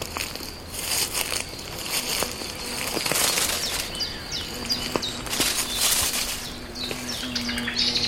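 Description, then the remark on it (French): A blackbird, surprised on a small path, bursts up from the shrubs and leafy trees with a rustle of wingbeats and sharp alarm chirps, amid dense outdoor ambience of insects and birdsong, with no one speaking. “Une petite sente qui surprend un merle.”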